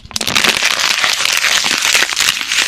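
crowd, audience applause

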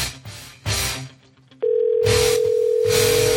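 signal or alarm, telephone ringing

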